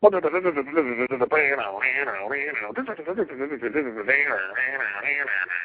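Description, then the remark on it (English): A single voice hums a guitar riff, imitating the instrument with a quick, bouncing melodic line that rises and falls for several seconds, with no other sounds around it. “I think you should forget about, like, all the equipment and just hum all the riffs for this album.”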